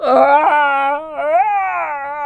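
A voice imitates a werewolf groaning in pain after lemony water is thrown into its eyes: one long, loud, strained moan whose pitch sags, wavers and rises again for a couple of seconds, with no other sounds.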